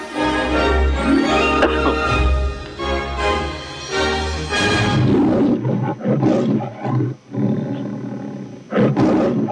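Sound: lion and tiger roaring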